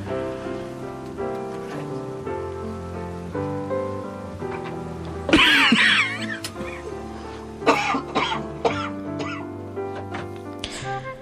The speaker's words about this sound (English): Now, Doctor, I have noticed this cough of yours for the past several weeks.